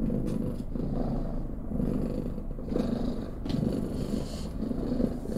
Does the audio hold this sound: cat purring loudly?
yes